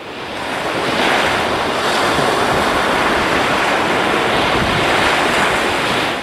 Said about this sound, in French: Pour finir, imaginez, on se pose devant la mer, apaisante naturellement, on écoute les vagues, on regarde dans l'horizon, le bleu du ciel et celui de l'eau se rejoignent, et rapidement une sensation de calme s'installe.